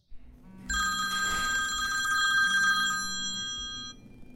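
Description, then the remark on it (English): A telephone bell rings loudly, one long bright metallic trill lasting about three seconds before cutting off, with no voices. “Have you ever waited for a phone call? And then it happens?”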